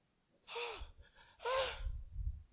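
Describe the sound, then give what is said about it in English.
A voice imitates the heavy panting of someone carrying a 2 kg dumbbell, with two loud, breathy gasps about a second apart, each strained and partly voiced, over a low rumble. “Some of you cannot carry dumbbell, 2 kg. You start panting.”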